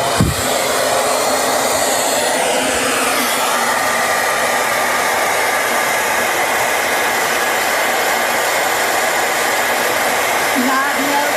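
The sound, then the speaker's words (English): A hair dryer runs on its highest hot setting, blowing on a snowball, a loud, steady whooshing roar with a whining hum that holds unbroken for the whole stretch after a brief bump at the start. “Highest setting hot.”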